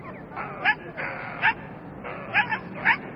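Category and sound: animal, dog barking and whimpering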